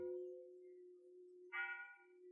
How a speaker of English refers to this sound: when he woke up, he could hear the church bells ringing.